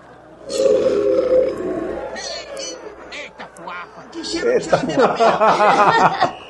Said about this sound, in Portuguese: Aí, ah, arrotando e vou diminuindo.